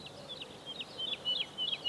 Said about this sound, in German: Die Heidelerche ist auch ein kleiner Vogel, fast unscheinbar, mit dem braunen Federkleid, fast wie ein etwas größerer Spatz. Das Besondere an der Heidelerche ist ihr Gesang.